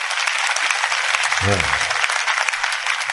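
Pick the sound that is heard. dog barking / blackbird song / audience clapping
audience clapping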